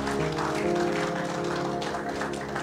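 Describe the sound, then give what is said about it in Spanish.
A church audience claps their hands for the King, Christ, in sustained, dense applause that holds steady throughout, with a tonal musical hum and some murmuring voices underneath. “Dele palmas al Rey con todo su corazón, amado hermano.”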